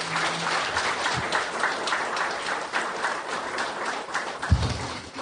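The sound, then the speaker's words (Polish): An audience applauds the Czarnożylska Orkiestra Dęta brass band after its performance of the 20th Century Fox film studio fanfare: a dense wash of many hands clapping at an even, sustained volume with no voices breaking through. “Brawa!”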